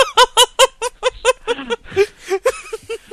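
A RuneScape video game bird call: a loud run of rapid, squawking notes repeating in a quick, steady rhythm, then shifting into slightly different chirps near the end, with no talking.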